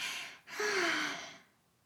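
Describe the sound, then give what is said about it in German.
A voice imitates a squirrel's yawn as it curls up at a bear's foot and closes its eyes: a short breathy inhale, a brief pause, then a drawn-out, falling, voiced exhale that fades away. It is alone, with no talking. “Dieses Mal legte es sich an die Fußsohle des Bären, rollte den Schwanz um sich herum, machte die Augen zu und gähnte.”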